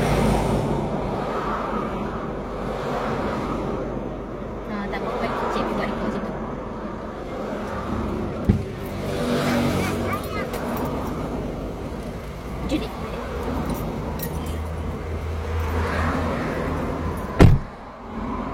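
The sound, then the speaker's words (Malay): Muffled interior ambience inside a car, with a steady low rumble and indistinct voices throughout, broken by two short sharp knocks or thumps near the middle and end. “Jadi ni kat dalam kereta dia bos.”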